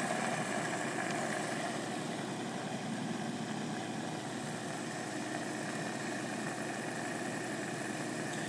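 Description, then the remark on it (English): A washing machine with an automatic door lock draws in detergent at the start of a wash cycle, with a steady, rushing wash of water and a low mechanical hum, holding even and fairly loud throughout with no voices. “So you can hear it sucking the detergent now.”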